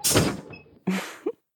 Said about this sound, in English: Washing machine. Open doors, please.